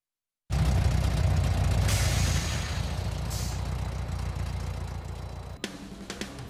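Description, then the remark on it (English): A bright red 1990 Chevy Corvette with a 245-horsepower Chevy 350 small block engine idles with a loud, deep, throaty rumble that holds steady for several seconds, shifting slightly in tone near the end. “Under the hood is a Chevy 350 small block engine with 245 horsepower”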